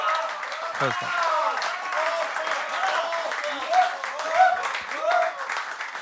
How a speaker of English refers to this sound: First of all, big round of applause for the fantastic performers from Thrill Folk Club that we saw.